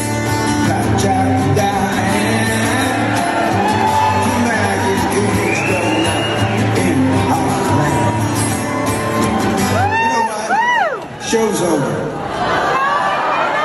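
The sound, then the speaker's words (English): A large concert crowd roars continuously, with a dense wash of yelling and chatter and several loud, rising-and-falling whoops and shouts bursting out near the end. “You got what, 3,000, 4,000, 5,000 people in the audience?”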